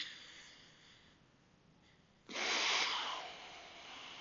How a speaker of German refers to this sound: Dann tut ihr die Zeigefinger auf beide Nasenflügel legen, sodass die Nase zu ist. Dann nehmt ihr die rechte Hand hoch, atmet durch das rechte Nasenloch ein.